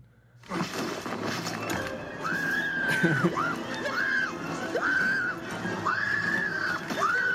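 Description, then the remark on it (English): A woman's 28-second scream played from a movie clip, long and high-pitched, rises and falls in repeated drawn-out wails, loud over a noisy, rumbling movie soundtrack, continuing without pause through the whole stretch. “It's a 28-second scream.”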